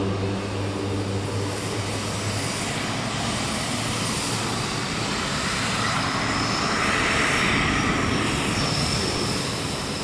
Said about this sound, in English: Well, for one, it is very loud. The plane is finally pulled forward. We're now on the runway with the last of the convoy of flights that's flying aid into Gaza today.